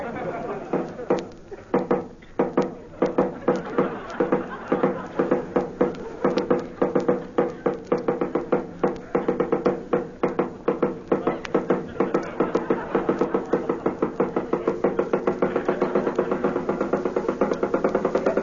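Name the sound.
knocking on a door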